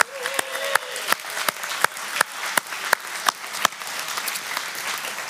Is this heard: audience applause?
yes